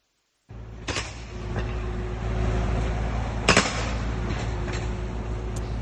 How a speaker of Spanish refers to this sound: Obras que los vecinos de la zona han denunciado les están causando malestar e insomnio. Martillos neumáticos, pitidos, este es el sonido que han colgado en redes sociales y que escuchan de madrugada en la zona.